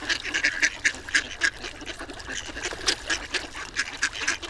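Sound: ducks quacking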